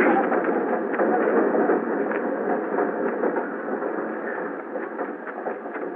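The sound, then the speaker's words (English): A train rolls along the tracks with a steady, dense rumble and faint rhythmic clatter, holding at an even loudness throughout with no voices. “don't you get on that train!”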